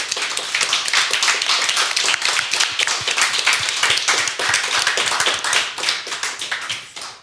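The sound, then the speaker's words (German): A crowd applauds steadily for about seven seconds, welcoming guest Steffen Seibert on the Cyber Morning Show, a dense, crackling wash of many hands clapping at once, holding loud and even before tapering off at the very end. “Wir bitten um da kann man ruhig mal klatschen.”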